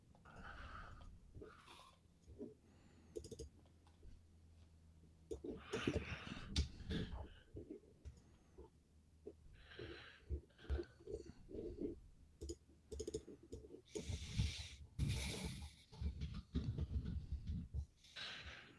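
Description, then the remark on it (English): Someone breathes into the microphone, with irregular gusty breaths and rustling puffs of air mixed with scattered clicks and bumps, and no one speaks. “I just hear you breathing now.”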